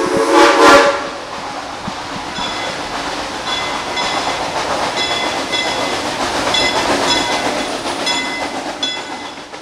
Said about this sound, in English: They are authentic steam trains. Wow. And, you know, who does this kind of stuff anymore? Keeps yesterday alive to be relevant for today. Children ride that train around the park and absolutely love it. A favorite and often a first ride.